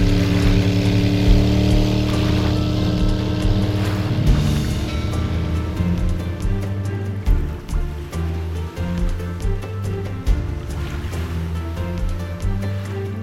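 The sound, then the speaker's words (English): A boat engine drones steadily as the boat heads out of St. Margaret's Bay, a deep continuous hum layered with rushing, splashing water, with no voices, over about thirteen seconds. “By the time Conrad steers his boat out of St. Margaret's Bay”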